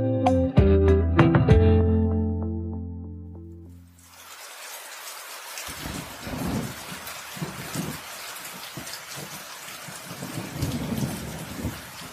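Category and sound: nature, heavy rain falling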